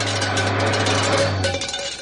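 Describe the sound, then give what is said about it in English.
A car hubcap coming loose while driving down 270: steady engine and road roar, then a brief metallic clank and rattle as the low hum cuts out, with no one talking. “There it is, and there goes your hubcap.”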